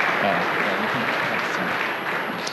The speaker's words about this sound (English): Let's give a round to our wonderful panel. Round of applause.